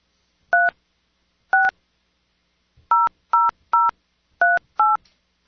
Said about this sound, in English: Nah, there's no way they'll pick up what that phone number is because I've dialed it and deleted and dialed.